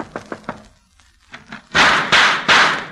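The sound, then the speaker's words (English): Knocking on the door of a house at night: three quick, light raps on a wooden door, a short pause, then three loud, heavy knocks in a steady rhythm, each a sharp hollow thud. “I shall knock on the door.”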